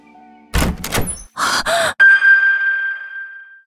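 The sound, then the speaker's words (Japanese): The door to a friend's bedroom is opened with a couple of heavy wooden thunks and a scraping slide, followed by a sharp clunk and a long, ringing metallic tone that slowly fades. “部屋の扉を開けると、そこには、壁一面に貼られた、私の写真があった。”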